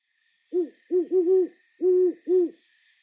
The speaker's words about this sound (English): My home here on Vancouver Island backs onto a forest. The other night, I woke up to the sound of an owl outside my window.